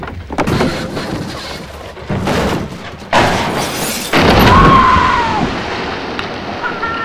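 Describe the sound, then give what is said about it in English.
A blue car is pushed over the edge of a deep quarry and plunges into the water: a few heavy thuds and scrapes build to a loud splash, then rushing, churning water with a brief metallic creak. “takes the blue car to the edge of a deep quarry and pushes it over into the water.”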